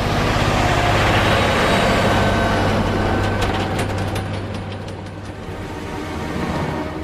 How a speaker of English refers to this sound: The truck speeds down a highway.